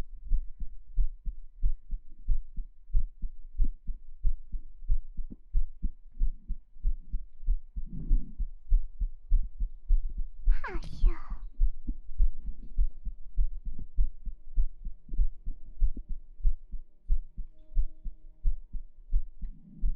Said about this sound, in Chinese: 心跳好平缓啊，你们就不想看一下这样的心跳会不会因为什么变化了？